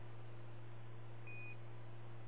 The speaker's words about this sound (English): Beep. Boop, bop, beep, bop, beep, beep, beep, beep, beep.